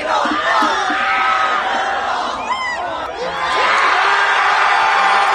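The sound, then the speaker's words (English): A loud crowd of hundreds in New York City cheers and whoops wildly as Cheese Ball Man finishes the last cheese ball, with overlapping shouts and high rising yells filling the whole stretch, swelling again toward the end. “The cheese ball man has finished the last cheese ball, and the crowd goes wild.”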